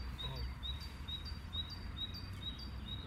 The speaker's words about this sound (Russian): Птицы здесь как музыкальные инструменты. Тик-тик-тик-тик-тик-тик. Там как колокольчик кто-то мой тут. О, слышите? Здесь тоже. Давай, давай, продолжай. Эй, что смутилась? Застеснялась птичка.